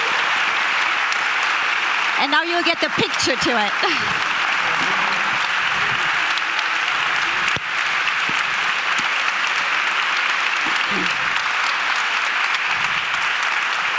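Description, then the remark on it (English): Sustained, dense applause from a crowd at the RIAS award ceremony fills the whole stretch at a steady loud level, with a few spoken words and some whistling cutting through early on. “Big round of applause.”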